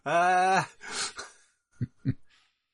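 A single loud sneeze: a drawn-out voiced 'ah' rising into a sharp, breathy, hissing burst, followed by two short, soft sniffing sounds. No one speaks.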